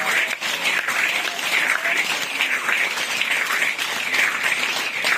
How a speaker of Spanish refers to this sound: ¿Qué tal si usted le da un aplauso al Señor en esta nueva casa?